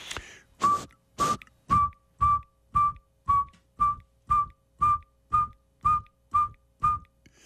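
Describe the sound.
A person whistles an imitation of a saw-whet owl's call: a long, steady run of identical short, mid-pitched toots, evenly spaced at roughly two per second, with no talking.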